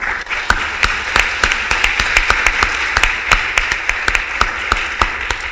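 An audience applauds steadily for several seconds, a dense wash of clapping with sharper individual claps popping out above it. Nobody speaks.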